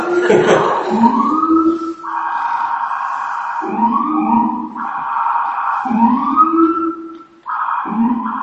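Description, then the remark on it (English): A police car siren, passing by in Ridgefield Park, wails loudly, cycling between rising sweeps and sustained high and low tones in a repeating pattern, filling the whole stretch with no one talking. “Just wait for the police to go by.”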